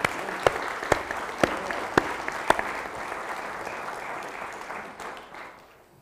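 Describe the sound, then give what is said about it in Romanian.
A church audience claps together to applaud God for reaching the end of the year 2019, a dense, steady wash of applause, with a few sharp, louder claps standing out early on before the clapping gradually thins and fades away. “Haideți să aplaudăm pe Dumnezeu că am ajuns până la final!”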